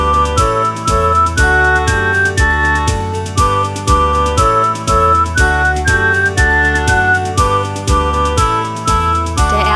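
a person whistling

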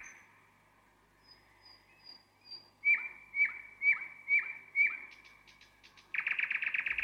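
nightingale singing

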